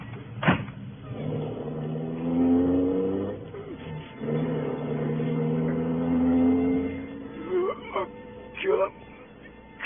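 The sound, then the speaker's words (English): An ambulance engine revs up in two long, rising surges, its tone climbing steadily before settling, followed by a few sharp clunks as the vehicle pulls away. “Okay, Joe, let's get this ambulance on the road.”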